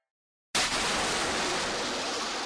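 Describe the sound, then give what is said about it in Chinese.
After a brief silence, a loud watery rush bursts in abruptly as a prince plunges back into the sea, then continues as a steady churning hiss of surging water until the end. “扑通一声，王子就返回了大海。”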